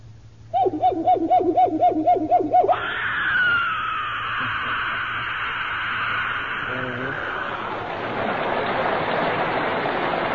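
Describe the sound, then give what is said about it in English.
A voice mimics an ape: a quick run of wavering, pulsing hoots breaks into a loud, strained screech that holds for several seconds before turning rough and hoarse. “Give us an ape now.”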